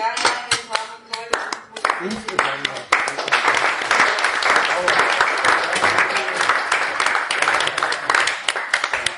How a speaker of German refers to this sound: Dein Beifall.